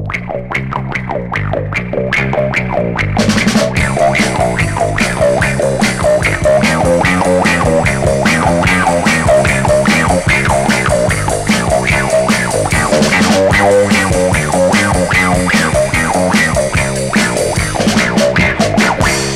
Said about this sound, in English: And listen to the funky bass guitar sound you get with the wah-wah pedal.